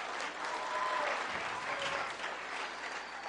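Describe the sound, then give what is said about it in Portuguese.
Steady applause from an audience welcoming the woman preaching for Women's Day to the front, many hands clapping in a dense, continuous wash that holds at an even level throughout, with no one speaking. “Você pode recebê-la com uma salva de palmas.”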